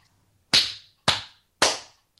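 Three sharp, loud hand claps, given as an editing marker during a recording, land at an even, steady pace, each with a quick bright crack that rings out briefly. No one speaks.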